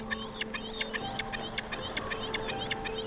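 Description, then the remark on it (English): Rapid, repeated high-pitched calls of bald eagles ring out in a steady chittering series, with harsher screaming and screeching of gulls mixed in, over a low outdoor background hum in a forest. “You're hearing kind of the chittering of bald eagles, kind of the screaming and the screeching of gulls.”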